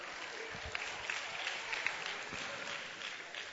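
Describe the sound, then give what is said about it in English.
An audience bursts into steady applause for those serving in the army, a dense wash of many hands clapping at a moderate level for a few seconds, with faint voices mixed underneath. “Oh, let's give them a clap, you know, for serving the nation.”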